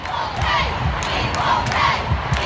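A large stadium crowd in France roars and cheers after the soccer World Cup final, showing support for the U.S. women's team winning its fourth World Cup, in a dense, continuous wall of voices, with shouts and chants swelling through the steady din and no break in the noise.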